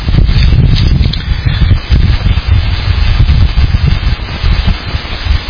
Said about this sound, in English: Father, today's a little bit nippy, little windy, and but we thank you that it's not hot.